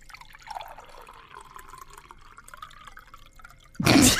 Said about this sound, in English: I've got the glasses. Just pour the water. Close your eyes. Tell me. It's closed. Tell me if this is hot or cold water.